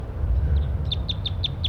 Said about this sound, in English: And that's wild birds right there, perched in the oak tree above the net site.